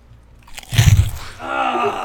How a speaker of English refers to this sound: do you think you could crunch any louder? I can still hear through this ear.